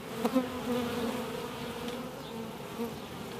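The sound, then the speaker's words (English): A dense, steady drone of many bees swarming and buzzing together all around a person, a continuous hum with individual wingbeats flaring up now and then, no voices present. “Well, I'm feeling quite comfortable around the bees now. I've got them swarming all around me, and I'm actually feeling quite comfortable.”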